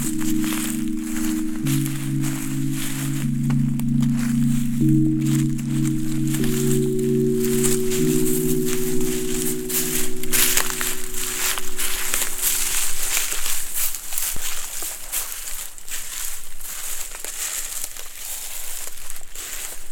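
Footsteps crunch and crackle through a carpet of dead leaves and dry wood, a few to about ten centimetres deep, in an irregular, steady rustle, while a low droning hum runs underneath for the first two-thirds before fading out.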